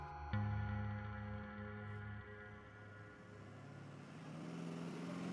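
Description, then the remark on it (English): A large bus engine starts up and settles into a steady, low, droning idle, its rumble swelling slightly as it revs, with no voices; the bus is taking students on a field trip to the Hyde Park neighborhood of Augusta. “Get in the bus! We're coming.”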